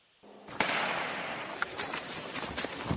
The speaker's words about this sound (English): Just heard a gunshot, and they're yelling at people to get out of the area.